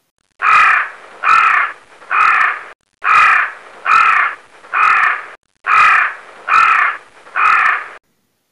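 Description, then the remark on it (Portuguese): Crows caw loudly in three quick bursts of three harsh, raspy calls each, with brief pauses between the groups and no talking. “Atenção, emissoras da Rede Bobo, para o top de Três Corvinhos.”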